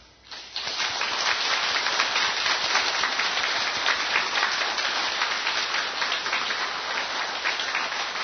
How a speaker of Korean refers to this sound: 오늘 예배당에 찾아오신 분들 그리고 인터넷으로 이 방송을 들으신 분들 초대받으신 분들은 잠깐 자리에 일어서 주십시오. 우리 온 식구들은 사랑하는 분들을 뜨거운 박수로 환영하겠습니다.